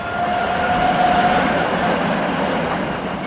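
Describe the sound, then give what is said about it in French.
A tram rumbles steadily along its rails on a street in Prague, with a thin, high metallic wheel squeal rising over the noise for the first second or so. It is fairly loud, and nobody speaks. “Prague, son château, ses tramways qui crissent sur la chaussée et ses casinos.”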